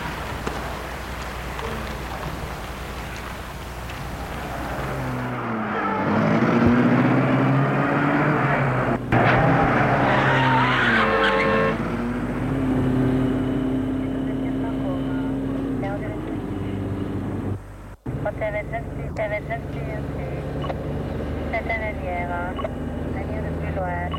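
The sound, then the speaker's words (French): A chauffeur starts a car; the engine turns over and revs up, its pitch climbing as it pulls away, then settles into a steady rumble of driving through the sunny streets of Paris. “Et le chauffeur met la voiture en route.”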